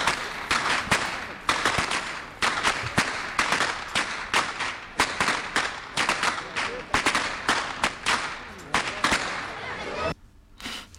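Pokači, masked carnival figures, crack huge whips in a rapid, irregular barrage of loud, sharp cracks, some overlapping, over a steady murmur of an outdoor carnival crowd, ending abruptly in quieter background noise.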